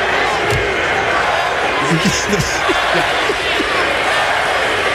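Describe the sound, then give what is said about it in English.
A dense, steady roar from the crowd at Capital One Arena as Bronny James goes to the foul line, with voices rising in a loose rhythmic chant of "MVP" mocking him partway through, loud and continuous for the whole stretch. “They were chanting MVP, mocking him.”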